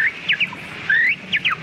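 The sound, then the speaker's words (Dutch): A person imitates a quail call with sharp whistled chirps, quick paired notes, then a longer sliding whistle and another pair, clear with no talking. “Een kwartel. Een kwartel.”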